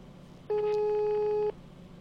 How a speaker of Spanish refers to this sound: Llama, no atienden. Es tarde para la juguetería, ¿verdad?